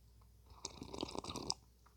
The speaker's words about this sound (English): Actually, before I do that, I'm going to take my third sip of coffee.